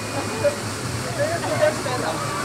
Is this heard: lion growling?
no